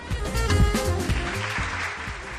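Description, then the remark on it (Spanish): A crowd applauds steadily, many hands clapping together in a dense, sustained wash of sound that stays fairly loud throughout, with no voices standing out. “Y este aplauso porque el Ayuntamiento de Valladolid programa un total de 238 actividades hasta finales de mayo encuadradas en las iniciativas Valla Tarde y Valla Noche 2023 y que se van a desarrollar hasta el 27 de mayo.”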